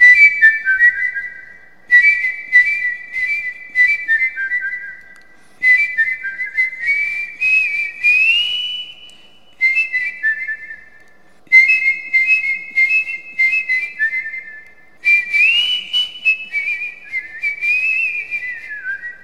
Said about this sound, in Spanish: Todos tenemos un aerófono natural que es el silbido.